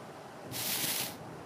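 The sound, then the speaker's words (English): A single soft rustling burst, a dry, hissy swish of noise lasting under a second, rising out of quiet and fading away again, with no voices. “There's that rustling noise again.”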